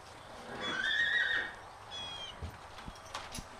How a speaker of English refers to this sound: So this is Sweetgrass, the mare that's coming to us here, and the young foal is Cedar. Sweetgrass came from TJ Stables down in Chatham area, and she came to us pregnant.